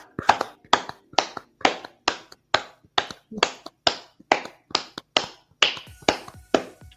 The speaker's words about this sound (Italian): Visto che sono l'una di notte, glielo vogliamo fare un bel applauso ai nostri spettatori? Assolutamente, facciamo, sì.